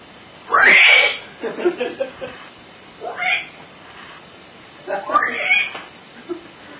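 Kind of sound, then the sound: animal, cat meowing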